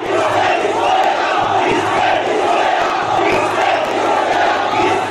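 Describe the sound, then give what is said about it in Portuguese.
Tens of thousands of protesters in the streets around the official presidential palace in Colombo roar and shout continuously, demanding the government's resignation; a dense, loud wall of overlapping voices with no pauses, sustained at steady intensity throughout. “O vídeo mostra dezenas de milhares de pessoas nas ruas ao redor do palácio oficial.”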